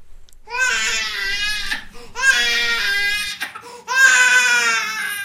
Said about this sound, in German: Ein Baby schreit. Es schreit schon lange. Es ist gefüttert und frisch gewickelt. Es hat warm und ist im Arm der Mutter. Und schreit weiter. Schreit und schreit, stundenlang, jeden Tag, seit langem.